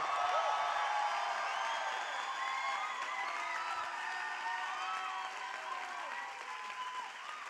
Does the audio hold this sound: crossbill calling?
no